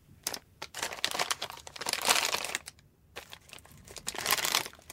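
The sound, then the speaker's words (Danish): Paper and plastic snack wrappers, one from a cheese snack and one from a breadstick, crinkle and crackle in dense, restless bursts, pausing briefly twice before rustling on again; no voices. “Jeg havde faktisk om eftermiddagen set et stykke papir og plastik. Et fra ostehaps og et fra finstang.”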